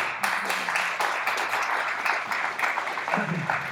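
Steady applause from a crowd, a dense wash of many hands clapping that holds at an even, moderately loud level for the full few seconds without fading.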